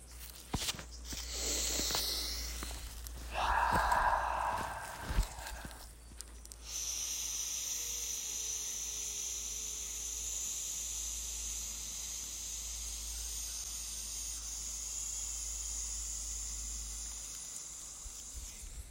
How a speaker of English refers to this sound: Let's do a little bit of breathing, huh?